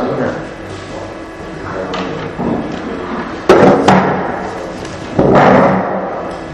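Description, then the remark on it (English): A couple of chairs are pulled out and set down, giving a few scraping bumps and thuds at irregular moments, with some low voices murmuring in the background. “Yeah, why don't we, I'll tell you what, let's just pull a couple chairs out here.”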